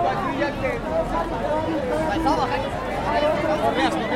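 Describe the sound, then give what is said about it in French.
A dense crowd of people out to look at the illuminations chatters all at once, many overlapping voices merging into a steady, lively babble with no single speaker standing out, holding an even, fairly loud level throughout. “Nous nous extrayons donc de cette marée humaine étourdissante”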